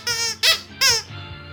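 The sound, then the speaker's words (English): A squeaky cat toy called Squeaky Kitty squeaks sharply four or five times in quick succession, loud, each squeeze a high, wheezy, bright pitch with short gaps between, and no voices. “Y'all, coming up on today, say it with Squeaky Kitty.”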